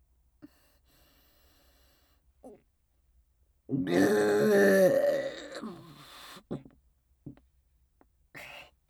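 A single loud, drawn-out burp close to the mic, lasting a couple of seconds, with faint breaths and small mouth noises before and after in an otherwise quiet setting.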